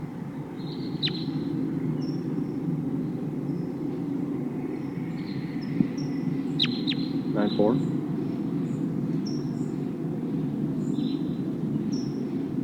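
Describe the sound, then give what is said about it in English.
A flock of about 10 wild crossbills calling, perched in the top of a tall pine tree, with many short, sharp, high-pitched chips scattered irregularly throughout, fairly faint over a steady low rumbling background noise. “It sounds like there's a whole flock of crossbills here.”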